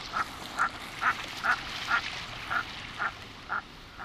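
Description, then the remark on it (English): Common merganser calls: a steady series of about nine short, hoarse croaking notes, evenly spaced roughly twice a second, over a constant hiss of wind or water. “This makes common mergansers and some other diving ducks among the last of the migrants to appear in the U.S. in late fall.”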